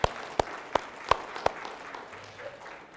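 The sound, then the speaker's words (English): Brief applause, another round for the team and the special number: five sharp, evenly spaced claps ring out over a faint background wash, then give way to a soft, lingering hiss. “team and the special number, another round of applause.”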